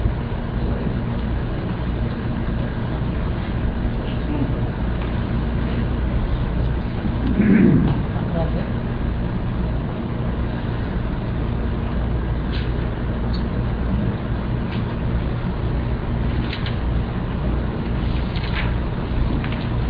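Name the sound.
car driving by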